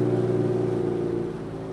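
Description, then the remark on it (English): A small outboard motor on a long wooden canoe drones steadily on the River Mira, approaching the village of El Guavo, a buzzing engine hum with strong low harmonics, holding an even pitch throughout with no voices. “This is basically a long wooden canoe with an outboard motor on it.”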